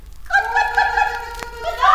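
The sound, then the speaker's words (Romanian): A voice imitates a hen's clucking with drawn-out, nasal, wavering tones, fairly loud, filling about two seconds without a break. “Parcă aud cotcodăcii de găini.”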